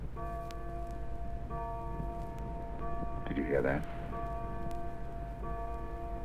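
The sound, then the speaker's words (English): A clock's bells toll midnight in slow, evenly spaced strikes, each ringing tone lingering into the next, while a voice briefly speaks partway through. “It's 12 o'clock. It's midnight. Look at the clock.”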